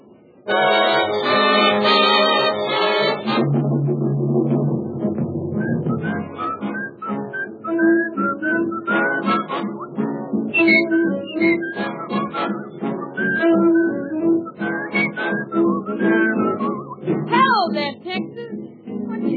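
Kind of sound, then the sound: human body sound, person whistling a tune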